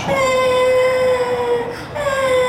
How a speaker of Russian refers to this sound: Ну, солнышко, не плачь. Все хорошо. Ты же не обожглась сильно.